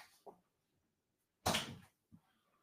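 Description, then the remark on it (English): A door shuts with a single solid thud, framed by a couple of faint knocks before and after. “I had to shut the door.”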